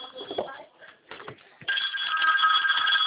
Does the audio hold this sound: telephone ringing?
yes